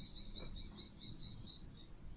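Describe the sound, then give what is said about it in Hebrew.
A bird chirps repeatedly in a steady series of short, high notes, fairly faint, with a soft low background hum and no one talking. “פתאום ציוץ, פתאום מחשבה, פתאום תחושה.”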